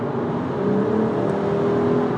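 A car engine revs steadily from inside a moving vehicle on a quiet drive with few other cars around, its droning hum rising slightly in pitch over a constant road rumble, moderately loud with no voices.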